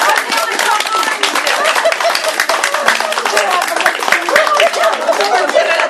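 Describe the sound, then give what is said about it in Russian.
A crowd gives a long, sustained round of applause for a team, a dense, even wash of many hands clapping at once that never lets up for several seconds, with some voices mixed into the noise. “Долгий, продолжительный аплодисмент.”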